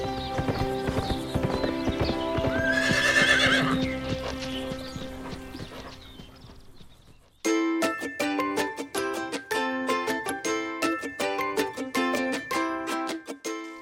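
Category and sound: animal, horse running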